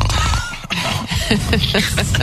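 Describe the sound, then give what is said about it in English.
A voice imitates snoring: a loud, rough, rattling rasp that rolls through a couple of exaggerated throaty breaths over about two seconds. “You pretend to snore?”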